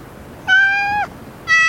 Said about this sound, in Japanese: あ、あの時の猫だ。